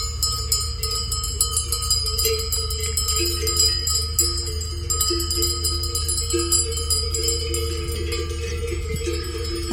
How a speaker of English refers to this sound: That's beautiful. Mm-hmm. Sounds like wind chimes with the cowbells or the goat bells. Yes.